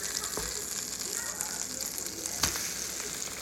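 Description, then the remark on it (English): Steady crackling sizzle of egg-soaked sourdough bread frying in melted butter in a pan, a dense hiss throughout with a couple of sharper pops or clicks breaking through, no talking. “Add the toast, and then I don't like to waste anything.”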